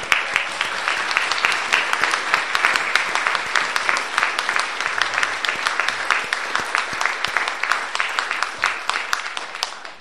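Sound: round of applause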